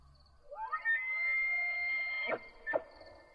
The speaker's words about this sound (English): It came from behind me and sounded like some strange scream, or maybe animal call, kind of like an elk bellowing, but something about it felt unnatural.